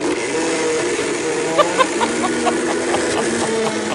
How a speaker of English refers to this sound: I knew I could get the iPad in a blender, total blender. I think I'll press the iBlend button. iBlend.